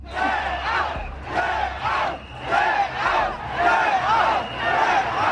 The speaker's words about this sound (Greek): Μια ώρα αργότερα στο Λονδίνο, χιλιάδες άτομα συγκεντρώνονται έξω από το Βρετανικό Κοινοβούλιο.